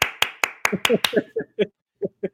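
Six sharp, evenly spaced hand claps ring out in a quick steady rhythm, joined partway through by short voiced vocal sounds that carry on in bursts after the clapping stops.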